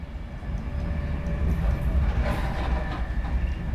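An express train heading north from London Euston to Carlisle, already past Lancaster, rumbles steadily along the rails, a dense low roar with faint rattling and clatter riding on top, heard from inside the carriage with no one speaking.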